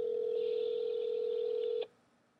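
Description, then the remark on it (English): A steady electronic telephone tone hums continuously for nearly two seconds, fairly loud, then cuts off abruptly, leaving faint background hiss, as a phone call is placed. No one speaks. “Watch this. If he answers the phone.”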